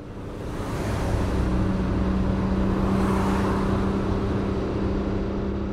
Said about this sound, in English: It was still dark when I put my suitcase in the car and drove off.